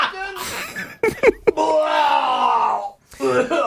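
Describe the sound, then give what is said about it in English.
A person vomiting on a beach, the sound carrying across the beach, lets out a long, loud, moaning retch that holds steady for over a second after a few sharp gagging bursts, with talking before and after it. “It's just every time … barfs, I hear it no matter where I am.”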